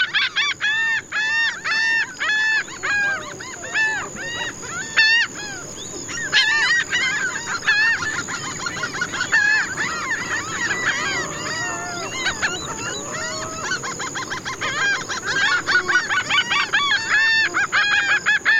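A dense chorus of many birds calling at once among palms, mangroves and coastal dunes in Mexico, loud overlapping honks, squawks and chirps with a steady high insect-like whine above, no talking; recorded by Antonio Celis Murillo for the CD an album.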